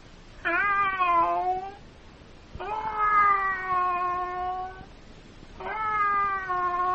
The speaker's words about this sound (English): And that is a cat. That's right.